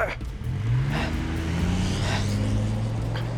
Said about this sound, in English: The third shot missed, and as McElroy was reloading, Romaine climbed back into the truck and floored it out of there.